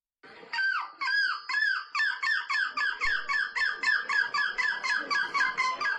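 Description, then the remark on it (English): A person imitates a seagull at a seagull impersonation competition held in a packed bar, with a loud run of shrill, harmonic cries, a few longer calls at first, then about a dozen quicker, steady yelps in a repeating rhythm. “And I found a video where there is a seagull impersonation competition.”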